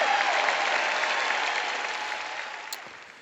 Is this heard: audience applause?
yes